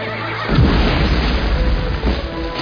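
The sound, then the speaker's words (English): A deep cannonball boom bursts in after a brief lull, followed by a sustained low, rumbling roar and a second heavier thud near the end. No one speaks. “Sounds like a cannonball.”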